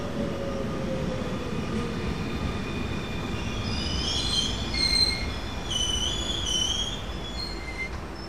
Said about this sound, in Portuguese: No Pragal para o comboio da Fertagus, um transporte que funciona bem